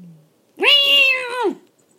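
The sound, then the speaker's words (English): A single drawn-out meow from a female cat, Pooh Bear, loud, rising then falling over about a second, with near silence before and after apart from a faint low murmur at the start. “I bet she hears your voice and is freaking out right now.”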